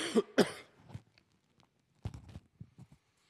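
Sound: cough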